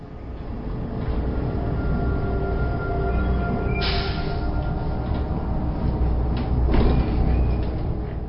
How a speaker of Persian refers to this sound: صدای از دور می آید. بیشک این صدا متعلق به اتوبوس است، اما من چیزی نمی بینم. این مه لعنتی. سایه غول پیکری به من نزدیک و نزدیکتر می شود و حالا کاملا نمایان است. بالاخره این آهن پاره غول پیکر از راه رسید.